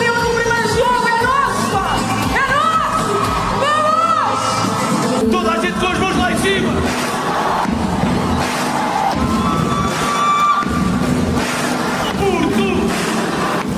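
A large, loud crowd cheers and shouts continuously, with many voices singing along and rhythmic clapping to a song led from the main stage, in a dense, echoing roar that never lets up.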